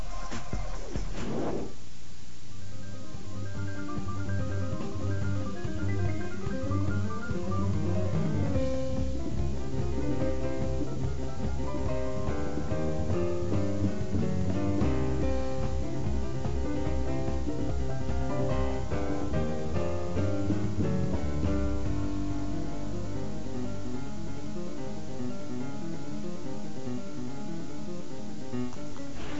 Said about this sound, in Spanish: Vamos a un puente musical y regresamos. Quédense con nosotros.